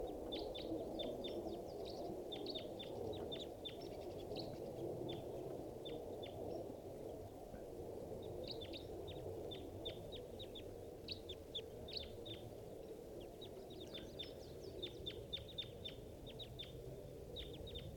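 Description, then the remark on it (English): A flock of about six crossbills sitting in a big dead pine across a park gives sharp, high 'jip' calls in scattered bursts and quick runs, several birds overlapping, above a steady low rumble of background noise. “and I see a flock of about 6 crossbills sitting in the big dead pine across the park.”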